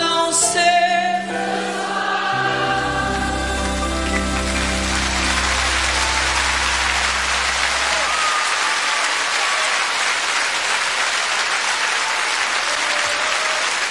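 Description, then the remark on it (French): A song's final held chord rings out and fades as a large concert audience at the Olympia in 2005 bursts into sustained, loud applause that continues steadily to the end. “… sous un tonnerre d'applaudissements, comme vous pouvez l'entendre sur les ondes de Radio Plus”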